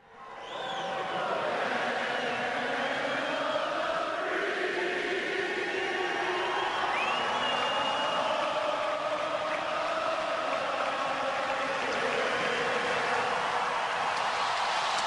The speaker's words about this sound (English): I mean, just absolutely electric. The crowd breaks out into a USA chant as the cheers fade, and the Bruins go all the way to the Stanley Cup Finals a couple of months later.